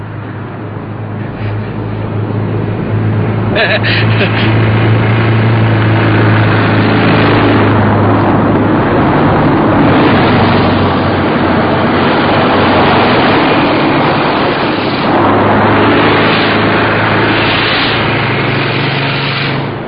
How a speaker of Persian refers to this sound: بابا گوش کن، به جون مادرم صدای ماشینه. میشنوی؟ بفرما. صدای ماشین نیست، صدای موتوره.